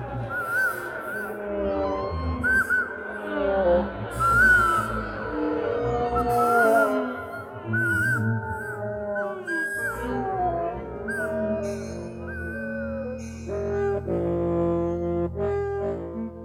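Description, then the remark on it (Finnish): Many voices wail and moan together in long, wavering, overlapping cries, rising and falling in pitch over a low rumbling backdrop, steady and fairly loud throughout. “Kansa on nähnyt meidät. Se tajuaa, että kuninkaallinen kallon poraaja on tulossa. Siitä tämä parku.”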